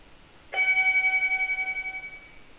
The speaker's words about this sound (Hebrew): אנחנו נשמע כעת צלילים דרך אורגן. הקול הראשון זה צליל ארוך.